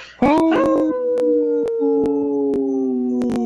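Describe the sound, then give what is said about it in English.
Several people howl together in imitation of wolves on the Native Roots Radio show I'm Awake, long sustained wavering notes rising and holding loud, with a few sharp clicks scattered through. “our guest from Res to Residential blog, did not howl.”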